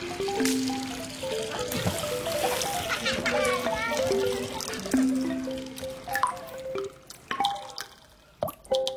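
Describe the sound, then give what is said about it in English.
Children shout and chatter excitedly while water splashes and drips around them as people throw water at Burma's Water Festival, with sharp splatters breaking through the lively crowd noise toward the end. “people play the water”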